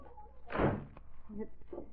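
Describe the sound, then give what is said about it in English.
A door is pushed shut with one loud, dull thump, followed by a few faint, low sounds that may be murmuring voices. “Close that door.”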